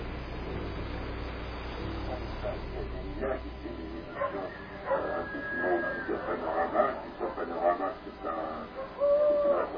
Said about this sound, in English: It is the same owl.